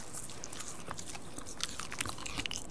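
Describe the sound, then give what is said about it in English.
Crunchy chewing of a fresh, edible nasturtium leaf, with a steady run of crisp, irregular bites and mouth sounds and no talking. “This is the leaf of nasturtium.”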